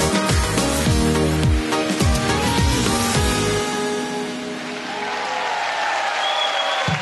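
A song finishes with heavy bass beats and sustained chords, then an audience breaks into steady applause that fills the second half, with faint cheering mixed into the clapping.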